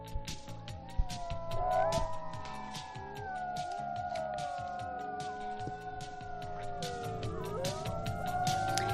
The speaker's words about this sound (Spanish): Con estos aullidos viene nuestro biólogo Fernando López Mirones.